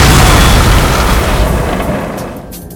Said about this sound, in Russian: И сделай большой взрыв.